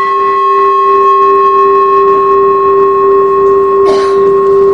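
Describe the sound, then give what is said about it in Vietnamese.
A Buddhist temple bell, struck at an angle, rings out in a loud, sustained hum of layered tones that pulse briefly at first, then hold steady, with a short rustling noise near the end. “Chuông là không có thỉnh ngang vậy, thỉnh như vậy là mình lật cái chuông, mình hất cái chuông lật á, thỉnh xéo vậy nè, để mình đưa cái tiếng chuông nó đi lên, phát cái tiếng chuông nó lên.”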